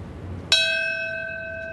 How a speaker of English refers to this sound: That bell rang at 8:46 this morning to mark the crash of the first plane into the North Tower. The sound announced the first of four moments of silence observed during the morning.